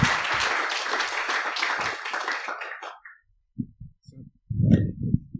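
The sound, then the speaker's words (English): Dense, steady audience applause for a speaker leaving the stage at a live event fills the first few seconds, then thins out and fades, followed by a man beginning to speak. “Everyone, you just did a very good job applauding.”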